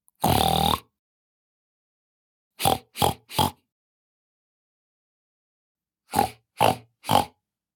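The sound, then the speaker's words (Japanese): A person imitates a pig, starting with one long nasal oink, then two quick bursts of three short grunts, fairly loud with silent gaps between. “ブヒブヒしちゃうぞー。ブタです。あたしブタなんです。”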